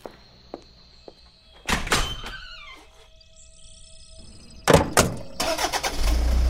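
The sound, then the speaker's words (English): A vehicle door thunks shut, then a truck engine turns over and catches, settling into a low, steady rumble as it idles to warm up. No one speaks. “I'm going to warm up the truck, and we need to get on our way.”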